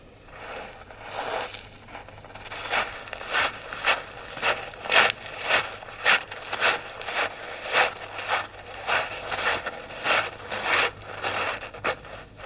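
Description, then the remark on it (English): Footsteps crunch across a beach in a steady walking rhythm, around twenty gritty, scraping steps at moderate loudness over a faint low hum, with no voices. “it is simply some effects of some footsteps in the beach, which I'm going to show later on how I've incorporated this into one of my compositions.”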